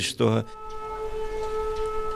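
An air raid siren in Kryvyi Rih holds a steady, droning tone that carries on evenly after a brief burst of voice at the very start.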